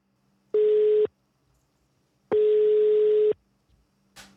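A telephone ringing tone as a show's hosts call politician Rita Pawelski, who joins by phone: two steady mid-pitched buzzing tones, the first short and the second about a second long, separated by a gap of quiet, with a faint click at the end and no talking.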